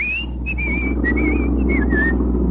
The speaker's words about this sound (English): No, for heaven's sake, whistle if you must. Oh, well, thank you.